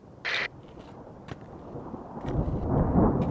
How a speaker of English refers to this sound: Oh, you hear that? Glad to be gone before the storm comes in.